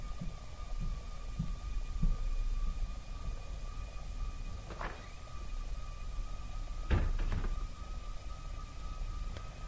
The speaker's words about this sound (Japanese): 足音とドアの開閉音は近づいているようだった。